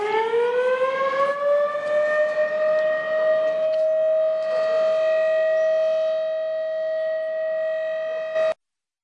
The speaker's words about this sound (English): In Nagaland, the drill was carried out across the 10 designated civil defense districts of Dimapur, Kohima, Mokokchung, Wokha, Zuneboto, Mon, Pak, Duensang, Kifire, and Paran. Sirens were blared for 2 minutes from 6:30 p.m.